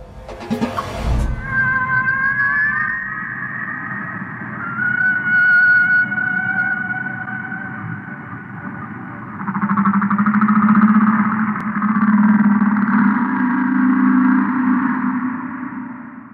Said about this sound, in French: Voilà, des sons de baleines, visiblement pour nous mettre un petit peu dans le cerveau, un son étrange et pour voir comment nous allons réagir.